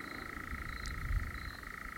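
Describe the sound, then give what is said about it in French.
A nightjar singing from a tree churrs without a break, a steady, rapid mechanical trill at a mid-high pitch, holding an even level like a small purring engine over low background rumble. “De loin, ça fait un peu un moteur, quoi. Un petit moteur de Solex.”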